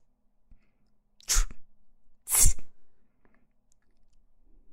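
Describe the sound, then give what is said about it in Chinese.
Two sharp sneezes about a second apart, fairly loud, each a sudden breathy burst against an otherwise quiet background with a few faint clicks. “你看你又打喷嚏。”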